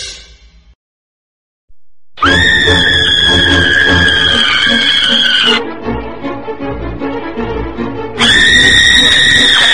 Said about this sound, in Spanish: Y estamos de regreso aquí en Carinto, y esos gritos que escuchan de desesperación y terror, pues son acordes a los temas que les voy a estar platicando.